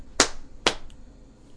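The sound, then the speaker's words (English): Two loud, sharp bangs on a table, about half a second apart, each a crisp impact that dies away quickly, with no talking around them. “And he was like banging on the table, like.”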